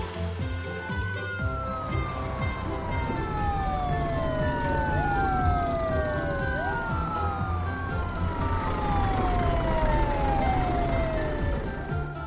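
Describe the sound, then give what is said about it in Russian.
Several emergency vehicle sirens from an ambulance, a fire engine and a police car wail at once, their tones sweeping downward again and again in overlapping glides, loud over a dense, busy background of rumbling noise. “Вперед, машинки! Скорая помощь. Пожарная машина. Такси. Полицейская машина.”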